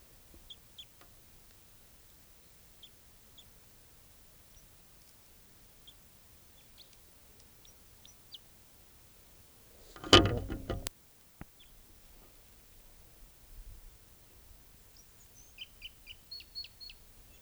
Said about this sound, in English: Wild bird.